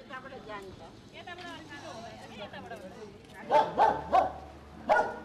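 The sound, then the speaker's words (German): Several loud dog barks in quick succession near the end, following a stretch of murmured background chatter and vocal-like sounds. “Die Hunde sind auch, über Tag liegen die in der Ecke und schlafen die ganze Zeit und nachts machen die Krawall, ne?”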